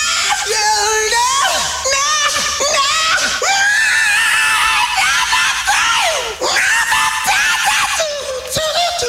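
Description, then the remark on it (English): Loud, continuous high-pitched screaming with wavering, sliding pitch, sustained for several seconds, like a newborn infant wailing at full volume with brief catches for breath, marking the birth of a future rock singer on March 26, 1948. “The future rocker came into the world in the same way he would eventually spend his life, screaming.”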